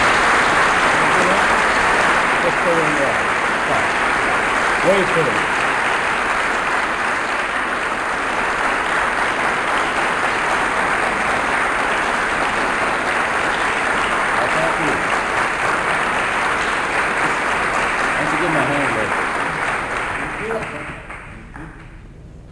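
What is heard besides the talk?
audience applause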